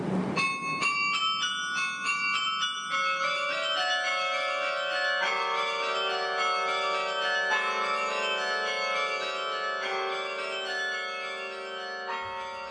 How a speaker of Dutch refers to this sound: Hij speelt veel Debussy. Dat is muziek die ook wonderwel klinkt op de klokken.